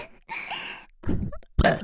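burp

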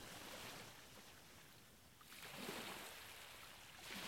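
ocean waves

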